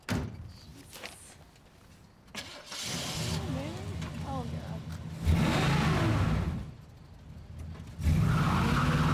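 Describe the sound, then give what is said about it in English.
A car door thunks shut, then an engine starts and revs loudly in several surges, the motor rising and falling as the car pulls away. “He grabs his notes and marches back to his car and gets in.”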